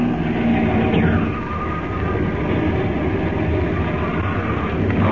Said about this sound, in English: Well, we land. I'll put the plane down in the water close by. All right. Here we go.